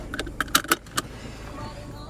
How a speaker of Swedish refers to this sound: går ut och sätter sig i sin bil.